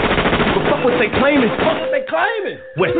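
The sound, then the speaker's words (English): Rapid bursts of gunfire crackle densely through the first second, then thin to scattered shots while raised voices shout and wail over the shooting. “These niggas is shooting.”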